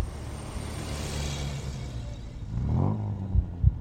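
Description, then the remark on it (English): A heavy truck engine rumbles, swelling to a louder roar as it passes on the Kilburn High Road at 2:10 a.m., driven by a lone driver, followed by a couple of dull thuds. No one speaks. “As the truck roared past, from the left-hand driver's side window, with the cabin blackout, all he could make out was a lone driver smoking a cigarette, unaware of what was about to happen to him.”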